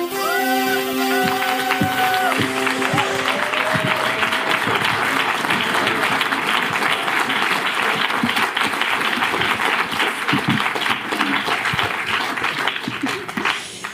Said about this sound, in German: Ja, herzlich willkommen. Vielen Dank für den schönen Applaus. Herzlich willkommen, Sibylle Berg. Nehmt doch nochmal applaudieren.